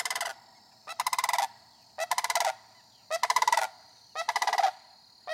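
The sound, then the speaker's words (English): A sandhill crane, the first of spring, flying over a house in southern Dane County, gives loud, rolling, rattling calls, about five bursts in steady succession, each a rapid pulsing trill with brief pauses between, with no talking. “I heard and then saw the first sandhill crane of spring.”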